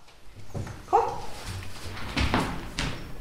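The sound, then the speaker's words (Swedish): Märta, a dog trained to sniff out rare earth metals in snowy, cold Hällefors, waits for a start signal and gives a short, high whimpering yelp, followed by a couple of sharper bark-like bursts against quiet outdoor background noise. “Hunden Märta är expert på att använda nosen.”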